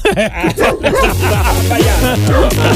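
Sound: dog barking and yipping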